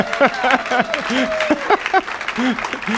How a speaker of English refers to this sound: Every time someone stands up to speak, you all clap. Except when I stand up. I've been trying all week not to take it personally, and then I finally get the applause.